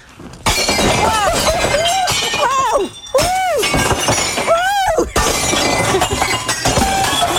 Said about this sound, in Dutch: Die champagnefles? Die champagnefles moest je tegen de muur gooien. Ja, ja, maar zo kan ik het ook, met tegen de muur.